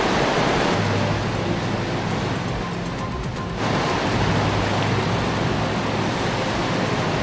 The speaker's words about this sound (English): Water being inundated as far as homes are concerned. 2 years worth of rainfall recorded in a single day, causing mass destruction. As you can see on your visual, a city that's not equipped to deal with rain is completely flooded.